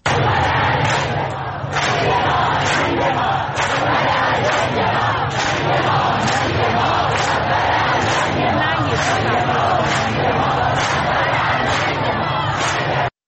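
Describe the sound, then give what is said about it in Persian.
A large crowd chants the slogan "death to the dictator" in unison on Valiasr Street in Tehran, loud and steady, with rhythmic shouted beats repeating roughly every second over a constant roar of voices. “در خیابان ولیعصر تهران شعار مرگ بر دیکتاتور داده می شد.”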